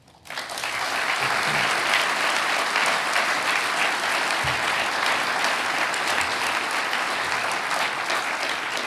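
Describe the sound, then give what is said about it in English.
A crowd claps steadily in sustained applause, starting abruptly after a brief quiet moment and holding a dense, even roar of many hands for several seconds. “Let us applaud the fact that that character was barbarous.”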